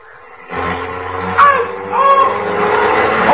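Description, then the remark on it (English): A car engine suddenly turns over and catches about half a second in, then keeps running with a steady, rumbling drone and a few rising revs as the car starts off and bumps into a man, fairly loud, with no talking. “Say, George, when you started the car, you bumped into him.”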